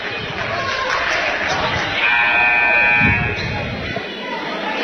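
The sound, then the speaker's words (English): A referee's whistle gives one sustained, shrill blast lasting just over a second, cutting through the steady roar of a basketball crowd with voices murmuring throughout. “Whistle.”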